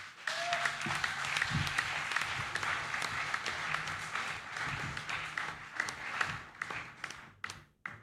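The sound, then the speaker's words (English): A crowd applauds an artist steadily for several seconds, a dense patter of many hands clapping at once that thins out and fades near the end. “Please give another round of applause to ….”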